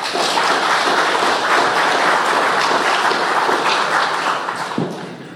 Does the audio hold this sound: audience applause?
yes